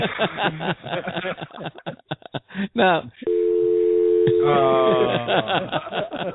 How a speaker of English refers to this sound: Tell me, does this sound like a phone hanging up?